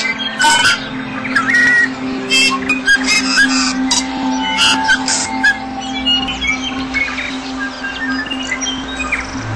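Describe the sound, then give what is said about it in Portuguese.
Dense New Zealand temperate forest birdsong echoing among the trees, with many overlapping chirps, whistles and squawking calls, some louder than others, over a steady low hum of ambient background. “Esta água sustenta vastas regiões da floresta temperada, criadas pelas estranhas e belas aves da Nova Zelândia. Vamos entrar na mata para ouvir o canto que ecoa entre as árvores.”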